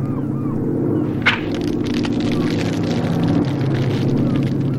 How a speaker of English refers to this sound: It's a search plane. I hope they see us.